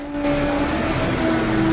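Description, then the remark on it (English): The engine of a 4x4 vehicle runs at a steady, moderate pitch as the vehicle reverses among trees, a constant droning hum with no voices. “She pulls the keys out of the sun visor and reverses the car back.”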